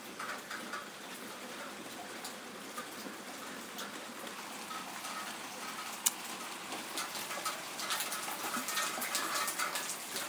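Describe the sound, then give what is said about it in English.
Steady rain patters on a roof built over a back garden on a windy day, a dense, even hiss of drops with one sharper tap partway through, moderately loud, with no voices. “But the rain was pounding like a minute ago, it's not as bad now.”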